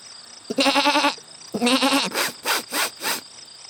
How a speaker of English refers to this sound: The poor goat looks very hungry. Do you like peas, little goat?